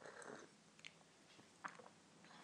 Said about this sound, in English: And I will say that my second extraction, for my palate, for my liking, is nicer. And it's nicer because the fruitiness still comes through, the mouthfeel is a bit heavier, and it just is a nicer drink. Let me just have another sip of that.